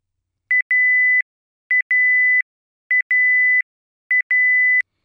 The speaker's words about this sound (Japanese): 約5分でブザーが鳴り終了します。